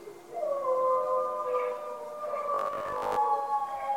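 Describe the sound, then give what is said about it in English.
Several people howl together like wolves from patios, porches and front lawns at 8 o'clock in the evening during coronavirus lockdown, long overlapping wavering tones rising and falling, fairly loud and steady, with a brief burst of clattering noise partway through. “Pretty much every night since we've been on coronavirus lockdown, people all across the country have been coming out on their patios and porches and front lawns at 8 o'clock in the evening to just howl.”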